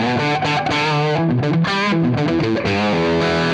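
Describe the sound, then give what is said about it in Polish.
A guitar played through a heavily overdriven amp with the power amp stage turned up to maximum, loud and dense with gritty distortion, the notes shifting continuously while the sound stays squashed and slightly choked by compression. “Słychać już zniekształcenia.”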